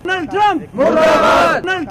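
protest crowd chanting slogans

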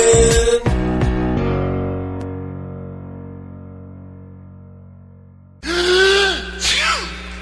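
sneeze

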